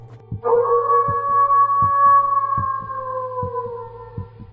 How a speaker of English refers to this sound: Surely enough, like clockwork, we heard another howl echo in the distance.